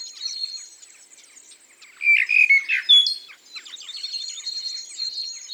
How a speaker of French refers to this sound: On peut remarquer que la mésange chante dans les silences, entre les phrases du merle.